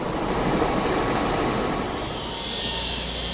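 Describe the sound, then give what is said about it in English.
A helicopter, used to fly drilled rock cores farther down the valley, roars steadily, its dense rotor and engine noise filling the whole clip with a continuous loud wash and a slight shift in tone toward the end. “After the cores are drilled out of the bedrock, they're flown by helicopter to the KSM's analysis operation farther down the valley.”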